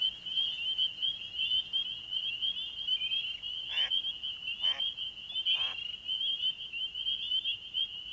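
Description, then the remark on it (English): A dense chorus of frogs trills steadily and continuously at a high pitch in a northern marsh at night, with three brief, louder calls rising out of it midway through. No one speaks. “The ducks fly away, and all we hear are the calls of frogs.”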